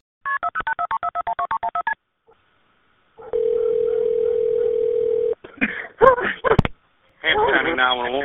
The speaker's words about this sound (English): After the dial-in, you can hear dogs barking in the distance, then a ring, then silence,